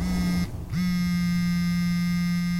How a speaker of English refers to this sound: I jolted as the phone buzzed in my pocket.